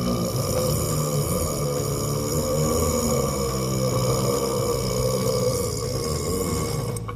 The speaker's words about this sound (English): That's quite, it's a hell of a burp, though. That first one was something else.